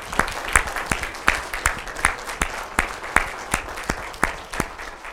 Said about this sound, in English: Would you all please stand? And would you give this representation of mothers a great big applause this morning?